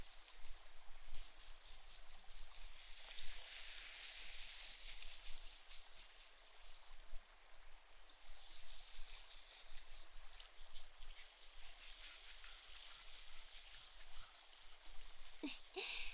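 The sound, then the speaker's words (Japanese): Steady fizzing of carbonated foam on a scalp during a head massage, a dense crackle of tiny popping bubbles hissing continuously, fairly soft, with faint rubbing movement underneath and no voices. “私も炭酸の泡の音が心地いいですし、あなた様の気持ちよさそうな顔も嬉しいです。”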